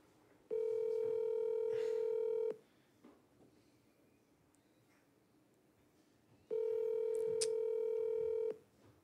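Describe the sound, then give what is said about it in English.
Two long, steady ringback tones from a phone line, each lasting about two seconds with a long quiet gap between them, as an outgoing call rings without anyone picking up. “She just don't answer her phone ever.”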